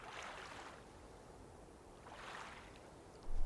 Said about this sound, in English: Listen to the rhythmic lapping of the waves and songs of the night.